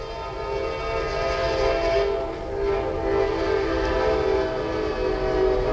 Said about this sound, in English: They're making money today, the train's early.